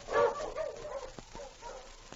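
A husky sled dog named King, being urged on, lets out a loud, strained bark, followed by softer, trailing yelps and whines, with a few faint clicks over the next two seconds.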